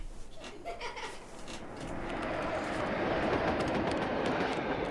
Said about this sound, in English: Dad, is that an earthquake? No, that's a train. A long goods train, trundling and rumbling, shaking our house.